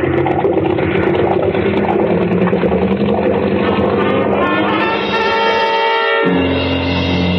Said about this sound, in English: All the salt water that should be flowing through the water jackets of two big exhaust pipes pouring into the bilges. And two red-hot manifolds absorbing all the heat of the two big engines.